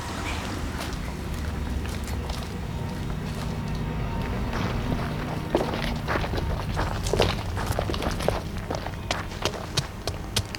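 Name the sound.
footsteps behind a door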